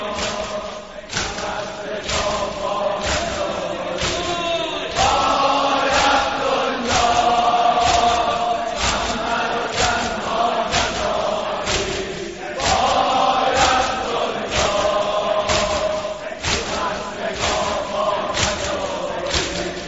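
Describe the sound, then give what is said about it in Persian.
A crowd of mourners beats their chests in steady unison in a chest-beating mourning ritual, each dull thud landing on a regular rhythm, with a chanted lament addressing Imam Hasan and crowd voices carrying over the pulsing beats. “یا امام حسن ببین برای بچه ها چجوری داریم سینه میزنیم، نوکری میکنیم.”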